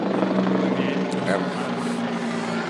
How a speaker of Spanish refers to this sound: Pasó el helicóptero a los supergüeyes, pero bueno. Es que ya vienen por nosotros, güey, ya nos tenemos que ir.